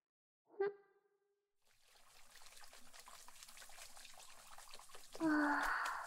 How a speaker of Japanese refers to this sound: じゃあ目を閉じとくけん、シャンプーの泡きれいに流してね。